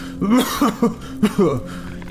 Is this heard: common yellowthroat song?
no